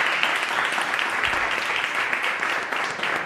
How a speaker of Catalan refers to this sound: Molt bé, doncs un aplaudiment per ella, sisplau, jo crec que ha quedat molt clar.